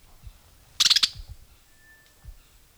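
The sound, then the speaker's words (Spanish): A blackbird (Turdus merula) tangled in a mist net gives an alarm call at about 9:55 in the morning: a brief, loud burst of about five sharp, high chattering notes in quick succession, followed by quiet with a faint thin tone and a few soft low thumps. “un sonido de alarma de dentro, Sincla. Merula.”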